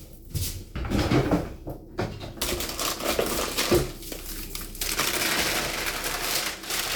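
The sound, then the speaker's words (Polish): A sheet of baking paper crinkles and rustles for several seconds while lining a greased dish for baking bread. There are sharp crackling bursts and softer scrunching as the sheet is pressed and folded, and no voices. “Teraz wyjmujemy arkusz papieru do pieczenia.”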